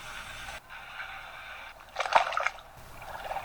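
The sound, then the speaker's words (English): Water trickles and sloshes in an echoing Turkish bath, with a steady wash of flowing water and a brief louder splash in the middle; no voices. “The waters of the bath bring us back to the waters of the Bosphorus River, one of the busiest waterways in the world.”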